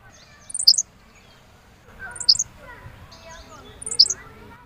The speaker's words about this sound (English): This is the Henslow sparrow. It's a hiccup is the best way you can describe it. Okay. So when you're walking through tall grasses, and there's these little birds that like to hide in the grass, right, you're basically listening for a hiccup.